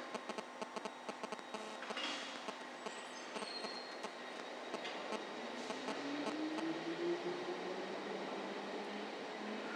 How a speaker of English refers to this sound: Right, I think we've got another train coming. Let's see. I guess this is going to be the Richmond one.